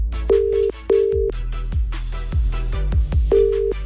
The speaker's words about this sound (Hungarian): Mónikánál csörgök.